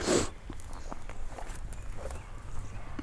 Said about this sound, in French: Je pense que vous avez entendu ce bruit qui passait, ces deux biches qui viennent de bondir sous mes yeux.